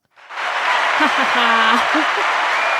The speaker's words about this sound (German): Und genau, dann wird am Ende nochmal geklatscht und dann stehen alle auf und gehen. Wie wird geklatscht? Mit den Händen.